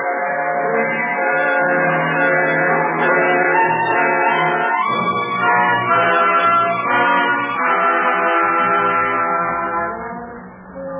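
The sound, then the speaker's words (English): The deep bells of King's Chapel ring slowly, their low, humming tones overlapping into a loud, sustained wash that shifts pitch a few times and fades slightly at the end. No voices. “King's Chapel rang out deep and slow, as if it had to tell a story.”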